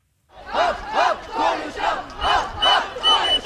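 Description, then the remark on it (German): A crowd of over 1000 schoolchildren from several schools in Konstanz on Lake Constance, Germany, shouts in unison at a climate protest, chanting in a steady rhythm of about six loud, high-pitched bursts, each rising and falling, with no individual voices standing out. “Über 1000 Mädchen und Jungen, mehrere Schulen brüllen sich ihren Unmut aus dem Leib.”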